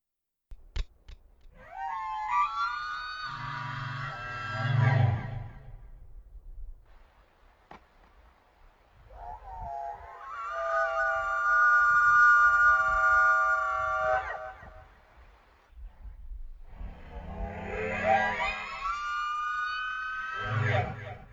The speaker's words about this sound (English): Okay, so that's supposed to be the sound. It's supposed to be a true sound of a Wendigo, and yeah, I don't know. Well, you know. But I think it's a representation of what people say they sound like.